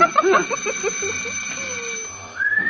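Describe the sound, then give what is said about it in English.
A man's shrill whistle holds steady high tones, with short chirpy notes at the start and a quick upward glide at the end, moderately loud with no talking. “Oh, that his whistle?”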